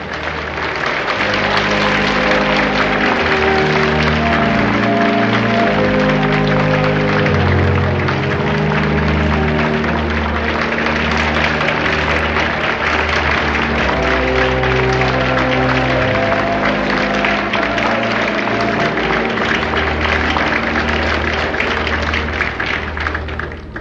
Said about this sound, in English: to give the Lord a hand clap that he'll be proud of.